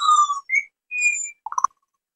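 Four small birds that have landed on a picnic table sing: a few clear, sustained whistled notes, then a quick flurry of short chirps before falling silent. No voices are heard.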